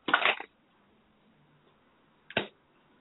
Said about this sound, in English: And I'm going to shuffle the deck. So tell me when you feel guided. Just say stop.